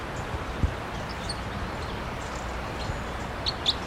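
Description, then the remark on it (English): A wild crossbill, perched in the trees at 9:28 a.m., gives a few faint, brief high chirps, most noticeably two near the end, over a steady outdoor rush of wind and rustling. “I think it's now perched in the trees above the that. I see the bird.”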